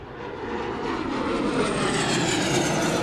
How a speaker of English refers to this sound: Plattsburgh Air Branch of the U.S. Customs and Border Patrol flew over the assembly at 8:46, the same moment the first plane struck the Twin Towers in 2001.